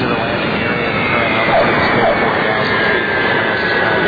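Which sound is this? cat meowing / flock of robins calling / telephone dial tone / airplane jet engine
airplane jet engine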